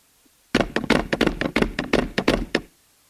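Someone raps on a door in a quick, slightly uneven series of about a dozen loud knocks lasting around two seconds, then stops into quiet.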